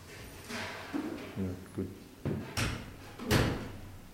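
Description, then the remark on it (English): A door is pushed shut with a couple of sharp knocks and a solid thud, over a murmur of voices and clattering noise coming from a kitchen. “Can that door be closed? There's a lot of noise coming from the kitchen there.”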